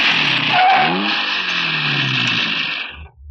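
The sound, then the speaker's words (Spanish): A small rented car's engine hums, revving briefly before settling into a steady idle-like drone as it parks at the curb beside a hotel, then cuts off abruptly just before the end. No one speaks. “El pequeño auto alquilado queda estacionado junto a la acera del hotel”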